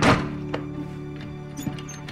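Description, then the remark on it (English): A solid wooden thunk of armoire doors swinging shut, followed by two small, sharp clicks as they settle and latch. Fairly quiet, with no voices. A woman closes the armoire, which holds shelves of folded linens and towels, after pulling a stack onto her lap. “She pulls a stack onto her lap and closes the doors.”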